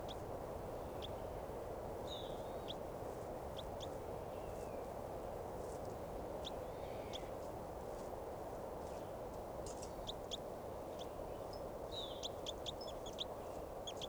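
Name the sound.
wild bird calling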